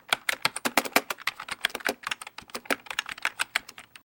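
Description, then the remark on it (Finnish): Rapid, steady keystrokes clatter on a computer keyboard for about four seconds, fairly loud, with short pauses between bursts and no one speaking, as someone types in a person's details from a registration form. “Mutta annapa se ilmoittautumiskaavake, niin naputtelen tietosi tänne talteen.”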